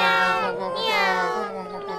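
A cat lets out a long, drawn-out meow that rises and wavers, loud, filling about two seconds with no talking over it.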